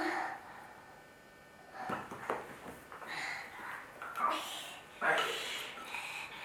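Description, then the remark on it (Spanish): A young child makes breathy, buzzing engine noises with their mouth, a few uneven bursts rising and falling, imitating an airplane motor. “Este es el motor de avión.”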